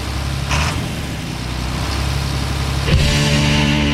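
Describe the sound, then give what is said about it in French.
A tractor engine idles with a deep, steady rumble, then its pitch shifts as it revs near the end. No one speaks. “Fouille-moi c'est quoi, mais ça commence avec un moteur de tracteur.”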